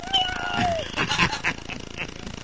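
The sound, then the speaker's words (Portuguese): A fat, neutered cat lets out one drawn-out, falling meow, fairly loud, followed by a few short scuffling noises in the background. “Faz o miau de novo aí.”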